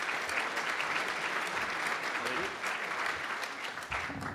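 Sustained audience applause, a dense steady patter of many hands clapping at an even level throughout, with no pauses or build.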